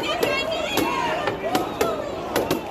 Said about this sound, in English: They held up shields and pushed in a line as tear gas canisters exploded.